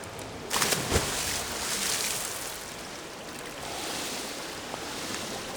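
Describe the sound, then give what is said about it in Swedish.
A swimmer's arm strokes churn and splash the water continuously, with a burst of sharper splashes near the start and then a steady rushing wash, fairly loud, no voices. “Och en känsla att bara få toppa ner i vattnet och känna vattnet strömma liksom under kropp och hur man tar sig framåt på varje armtag och liksom, ja, känna hur man bara kan trycka bort vattnet bakom en.”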